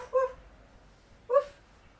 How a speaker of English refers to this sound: Is that a doggy? Ruff, ruff, ruff.